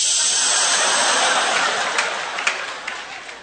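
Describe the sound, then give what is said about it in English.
A voice imitates an aerosol can spraying while standing outside in the cold Cleveland winter: one long, steady, bright hiss like a drawn-out "shh" that slowly tapers off over about three seconds, with a few faint clicks near the end. “That's all I ever do in the winter, stand outside with an aerosol can, like, shh.”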